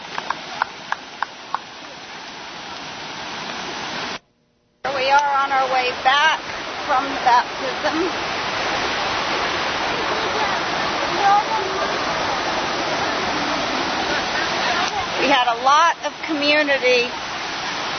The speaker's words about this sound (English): Unfortunately, the river rushing was a little too loud for them to give any testimonies, but the Lord knows that too. We had a lot of rain a few days beforehand. The river was high.